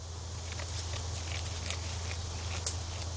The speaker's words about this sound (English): It's pretty quiet in Laurel Grove North Cemetery on the west side of the city. Just some goats chewing away. And that's the point. They leave a softer footprint on the earth.